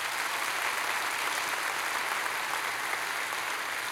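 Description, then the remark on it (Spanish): A church audience claps together in sustained, dense applause for God, a steady wash of many hands with no pauses and no voices standing out. “¿Cuántos le pueden dar un aplauso a Dios por eso?”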